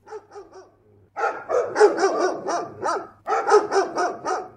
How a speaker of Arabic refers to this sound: وطبعا أي حد فيهم بسرعة أول ما يسمع صوت الكلب ده يجري ويخاف.